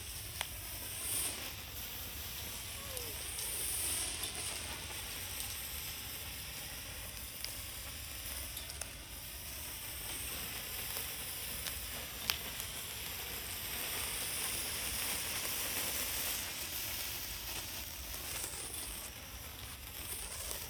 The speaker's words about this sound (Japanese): パチパチの方が結構長持ちするんですね。